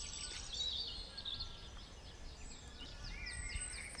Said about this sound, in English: Every morning I look out of my window and think this is the right place to live because of all the chirping birds and atmosphere here on the island.